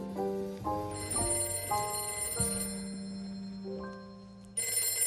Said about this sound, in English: Oh, that's the phone.